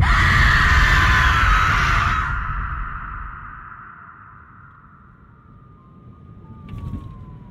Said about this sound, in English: He can even, he thinks, sort of see through her if he squints hard enough. And as he watches, she opens her mouth and she screams.